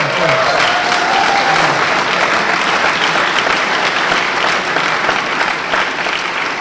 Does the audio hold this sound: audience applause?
yes